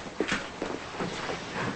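The top drawer of a large side table is pulled open with a few soft wooden knocks and a brief sliding rattle, quiet, with no one speaking.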